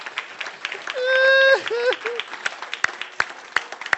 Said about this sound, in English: I want you to stand because I want to give it applause because you're good. Come on.